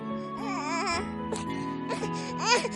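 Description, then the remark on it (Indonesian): An infant cries in wavering, rising and falling wails over a steady background hum, with brief pauses between bursts and a louder cry near the end. “Ah, ada suara. Ada bayi.”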